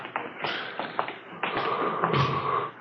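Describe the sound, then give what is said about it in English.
A door opens as Chief Thad Brown comes in at 2 a.m., amid a run of soft taps and thumps, with a faint drawn-out creak partway through; no one speaks. “It's Thad Brown coming in the door.”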